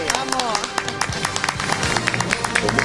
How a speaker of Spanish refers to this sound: Oye, merece el aplauso este hombre, ¿eh? Pues sí. Pues venga, poder dármelo. Venga, claro, venga, vamos a los panaderos de España.